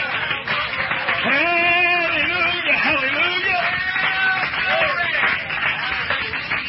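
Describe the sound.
Steady applause from a church audience giving the Lord a praise clap, while a man's voice calls out over it in a loud, sustained, echoing way, the clapping continuing throughout.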